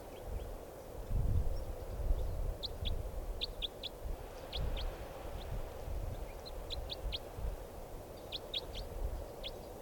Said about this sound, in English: Yep. 4:21 p.m. and there's a type 4 bird right down here at the decoys.